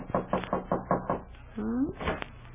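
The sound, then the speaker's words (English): Six quick, evenly spaced knocks rap on the back door of Ma's house in the evening, loud, followed by a short rising squeak and then a voice beginning to speak. “And right now, there's a knock on the back door,”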